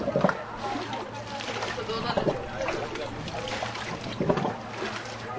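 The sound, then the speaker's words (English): Piped water arriving in the morning gushes and splashes steadily into containers in the alleyways of a camp as people fill them, with louder sloshing surges every couple of seconds and faint voices murmuring in the background. “Because it's so important not to miss the water, each day people wait expectantly in the alleyways for it to arrive.”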